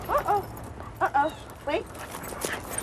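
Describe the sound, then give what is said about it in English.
Several dogs being walked give short, high barks and yips in three quick bursts, with faint shuffling and movement between them. “You have to know how to walk, not get tripped over by the dogs.”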